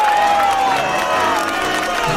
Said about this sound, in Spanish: Queridos amigos, para Huck Finn y para Tom Sawyer, pido un fuerte, fortísimo aplauso.